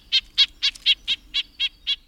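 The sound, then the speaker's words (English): A rapid, steady series of about nine short nasal yank calls from a red-breasted nuthatch, evenly spaced and fairly high-pitched, with a tinny, honking edge and no voices. “Here's the smaller red-breasted nuthatch's nasal yank, yank.”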